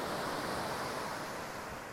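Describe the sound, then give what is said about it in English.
Ocean waves wash onto a beach in Aptos, California, in a steady, continuous roar of surf with no single distinct crash, fairly loud, with no voices. “This beach in Aptos, California is the closest that I'll get to narwhals today.”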